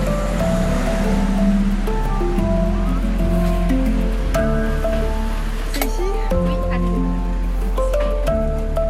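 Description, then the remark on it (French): Steady rain hisses outdoors, a constant wash of noise over the whole stretch, with faint voices murmuring underneath it. “Là, on accélère un peu parce qu'il pleut.”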